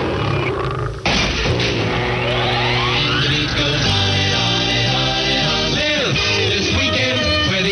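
A lion's deep roar rumbles loudly and continuously in a radio advertisement for Samson tobacco, layered over dense, tonal music with sweeping pitch glides. No one speaks during it.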